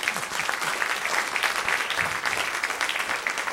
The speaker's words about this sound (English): Kennedy Center, this is really exciting for me to be performing here actually right now. All the history, let's clap it up for where we are right now.